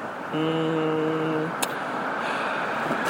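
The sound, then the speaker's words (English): A school bus approaches along the road at about 8:05 in the morning, a steady engine drone with a brief humming whine early on and a sharp click partway through, with no one speaking. “I think I see your bus.”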